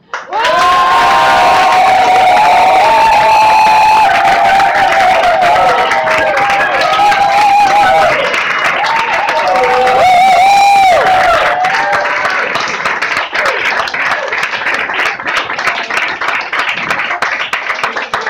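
A crowd claps and cheers loudly and steadily, with whoops and high shouts rising over dense applause that continues for the whole stretch, fading slightly toward the end.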